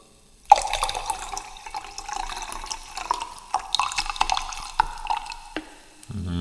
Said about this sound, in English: Oh shit, the coke is actually frozen. It doesn't flow into the glass at all.